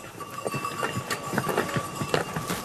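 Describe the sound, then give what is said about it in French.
Donkeys' hooves clop in an uneven, steady patter as the donkeys arrive along a footpath, moderately loud, with a faint steady hum running underneath. “Soit on a des ânes qui arrivent, voilà, et puis après il y a les gens qui sont là.”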